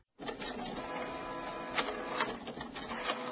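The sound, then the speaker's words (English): An inkjet printer whirs and clatters steadily, its mechanical buzz broken by a few sharper clicks and swishes as the print head moves. No voices are present. “Tired of replacing expensive inkjet printer cartridges? Maybe it's time to replace the printer.”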